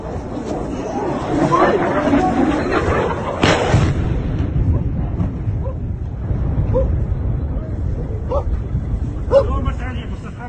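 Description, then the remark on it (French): A missile explodes in one sudden, heavy blast partway through, not far from a group of civilians waiting for a bus in Chernihiv, Ukraine, followed by a low, lingering rumble. Agitated human voices can be heard before and after the explosion. From footage aired on NBC News. “Le son d'un missile explosant non loin d'un groupe de civils attendant le bus, image diffusée sur NBC News.”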